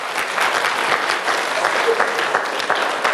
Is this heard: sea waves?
no